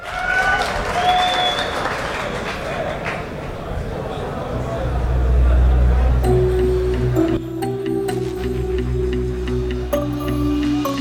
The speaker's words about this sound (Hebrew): תנו לו כפיים, חברים.